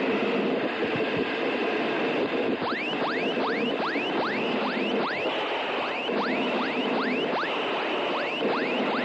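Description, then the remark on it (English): Twin jet engines of a jet car roar loudly and steadily on afterburner as the car accelerates hard in a straight line, a dense rumble with a rapid series of rising, sweeping whooshes pulsing over it. No one speaks. “Good burners.”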